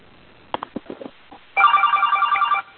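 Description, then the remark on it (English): A phone ringtone sounds for about a second during a meeting, a bright electronic trill pulsing rapidly, preceded by a handful of soft clicks and taps. No one speaks. “Hearing none and a ringing phone.”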